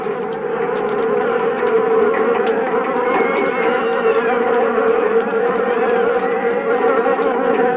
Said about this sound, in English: On September 16th, 1965, however, a swarm of killer bees attacked in downtown Rio. In their frenzy, they bombarded anything that moved.